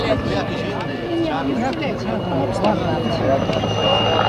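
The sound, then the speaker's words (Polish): A white helicopter with a small flag on it drones steadily throughout, a constant engine-and-rotor rumble under people talking in the foreground, neither rising nor fading over the few seconds. “Ale patrzcie, widzieliście, że tam chorągiewka jest na tym białym helikopterem?”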